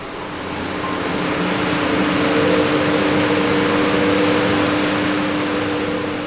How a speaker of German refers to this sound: Stille. Plötzlich beginnen die Ventilatoren der Kühlanlage zu toben.